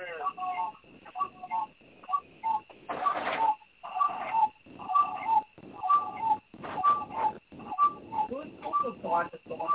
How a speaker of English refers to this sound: Yeah, what is that noise? Whose cuckoo clock is going off? Shoot that damn cuckoo.